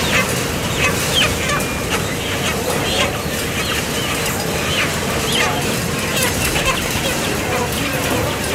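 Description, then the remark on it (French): A crowd of chickens at a slaughterhouse clucks and squawks continuously in a confined area under blue light before being hung on the line, their calls packed close together over a loud, steady industrial rumble, with faint voices mixed in. “Cette lumière bleue, c'est surtout pour éviter que le poulet soit stressé avant d'être accroché sur la chaîne et surtout avant d'être électrocuté et saigné, parce que le poulet ne doit pas être stressé.”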